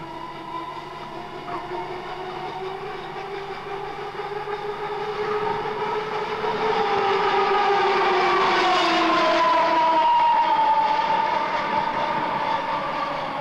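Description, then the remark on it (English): Tram car number 1893 descends the steeply graded Dog Kennel Hill at Dulwich under magnetic braking, pulling up at the bottom of the hill, with layered whining tones that slowly shift in pitch and a steady rumble growing louder, no voices. “Car number 1893 pulling on a lovely piece of magnetic braking, just pulling up at the bottom of the hill.”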